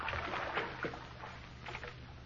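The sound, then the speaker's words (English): Fresh water splashes and sloshes in a bath in a few irregular bursts over a low, steady background hum, with no one speaking. “Fresh water.”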